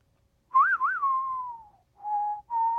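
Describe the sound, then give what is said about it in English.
A person whistles a short film theme melody from memory: a wavering two-note trill that glides downward into a long held tone, followed by two shorter steady notes after a brief pause. “Take the theme from The Good, the Bad, and the Ugly, for example. Why, I tried to follow that.”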